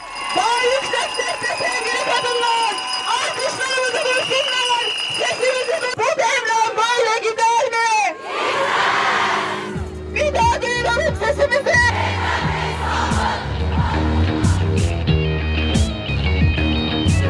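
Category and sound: crowd, crowd of protesters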